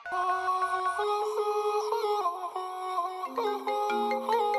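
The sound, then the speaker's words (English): A telephone rings with a bright, melodic electronic ringtone, its tones stepping up and down in a steady repeating pattern, loud, with no voices. “pass me the phone. Hello? Hello?”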